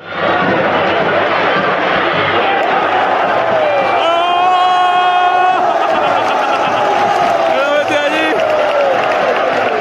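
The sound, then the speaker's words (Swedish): A big stadium crowd at Estadio de Vallecas in Madrid roars steadily throughout a football derby between Rayo Vallecano and Real Madrid, with loud chanting and rising whoops swelling in bursts around the middle and again near the end, the final cheer for a shot that landed among spectators on a balcony above the stadium's short side. “Publikens jubel där på slutet var för ett skott från Federico Valverde som landade bland åskådare på en balkong ovanför arenans kortsida”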